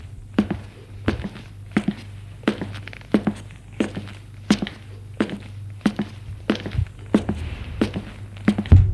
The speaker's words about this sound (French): Et se trouve en bas des escaliers. Il monte les escaliers.